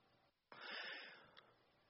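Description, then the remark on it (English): A voice imitates the strained, wheezy gasp for air of a crucifixion victim hanging on a cross: one sharp inhalation that rasps on for nearly a second, with no other talk. “You're hanging there and you're sort of gasping for air.”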